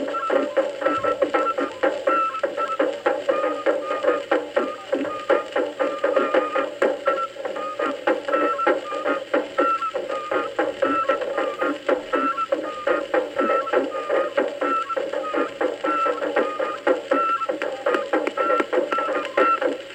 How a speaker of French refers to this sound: Dans ses valises, l'ethnomusicologue rapporte désormais les tout premiers enregistrements de terrain et ils sonnent comme ça.